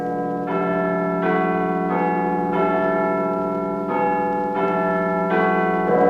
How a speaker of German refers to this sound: Big Ben, so heißt nicht der Turm, sondern nur seine größte und schwerste Glocke.